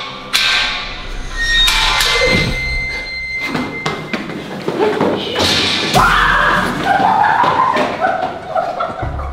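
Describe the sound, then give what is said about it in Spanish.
A metal railing, moved by a person, shifts and drops down with a series of loud clanks and heavy thuds, metallic ringing lingering between hits, then a wavering high-pitched screech over continued rattling. “Es que, tipo, o sea, yo moví el barandal y se bajó.”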